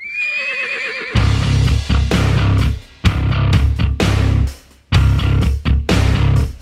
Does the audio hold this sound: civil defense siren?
no